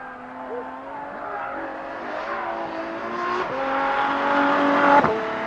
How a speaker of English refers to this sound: It's a beautiful sounding car. Look at that thing. Woo!